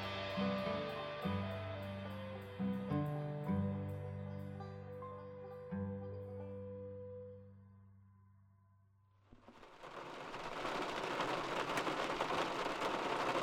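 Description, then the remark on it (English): Steady, soft rain patters on a surface on a spring morning, a dense hiss that begins after a gentle melodic passage fades out and then continues evenly to the end, with no voices. “On a soft, rainy morning earlier this spring, Jessica Jerkowski got herself and her infant daughter, Hannah, ready for a milk run.”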